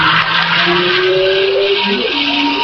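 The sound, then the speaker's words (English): This year's Le Mans-winning Peugeot race car, an extremely small car driven by David Brabham, roars past at speed, its engine note sweeping and shifting in pitch as it passes, loud and continuous with a squeal of tires underneath. “David Brabham in this year's Le Mans winning Peugeot just whizzing past us there.”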